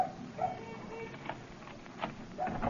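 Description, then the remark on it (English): A dog at home barks and yips in a few short, irregular bursts over a steady low background hum, with no one speaking. “Well, at least the dog's at home.”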